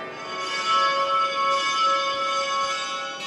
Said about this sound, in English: Like who rings the church bells first. As you can hear, each denomination takes its turn, and they rotate the order.